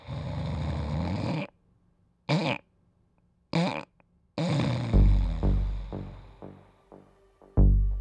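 Loud rasping snores in a run of bursts, one long, then several short snorts separated by silence, followed by a steady rhythmic series of snoring breaths with no talking.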